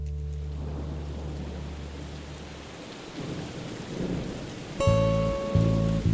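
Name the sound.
rain with thunder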